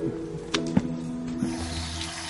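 A tap runs steadily, filling a glass with water, with a few small clinks and knocks over the continuous flow. The sound is moderately quiet, with no talking.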